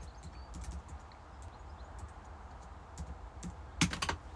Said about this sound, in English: There you go. That was me typing it wrong and kind of right, so that you can't decipher from the sound of keys tapping what it was I typed. That's how paranoid I am about security.